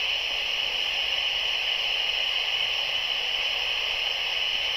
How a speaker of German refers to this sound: Man hört ja leider nicht so viel. Man hört ja bloß das Grundrauschen. Na, wo war's? Ja, und in dem Rauschen ist eine hohe Stimme.